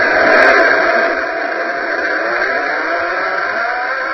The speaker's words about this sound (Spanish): Lo primero que vamos a escuchar es el sonido del propio brazo robot de la Mars Polar Lander, que sonaría así en ambiente marciano.